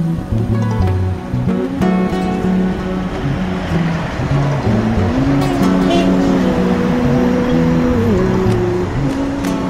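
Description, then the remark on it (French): The engine of the Rwandan presidential car, with Rwandan flags on each side, drones steadily throughout, its pitch stepping up and down as it moves through traffic, with a constant roadway rumble and no clear talk. “C'est la voiture présidentielle? Avec des drapeaux rwandais de chaque côté.”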